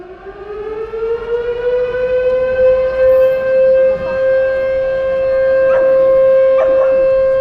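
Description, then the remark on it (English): In the town square of Guernica, factory sirens sound a loud, long, steady wail commemorating the town's bombing by the German Luftwaffe, 79 years to the minute after it. The wail rises briefly at the start, then holds one sustained pitch, with a few faint clanking strikes underneath toward the end. “And these sounds, factory sirens and church bells, are a commemoration of the bombing.”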